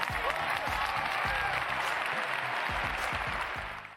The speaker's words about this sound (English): If you understand that, clap your hands.